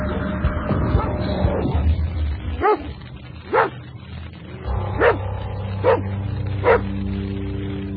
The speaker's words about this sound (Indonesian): seekor anjing hitam sedang menyalak di luar rumahku. Aku tidak mengenal anjing itu. Anjing itu tampak menggonggong ke arah rumahku.